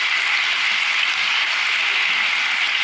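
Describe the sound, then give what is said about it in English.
An audience applauds together to welcome back and thank returning guests, a dense, steady wash of clapping that holds at an even level throughout, filling the room with no voices over it. “So would you give them a huge round of applause to say thank you?”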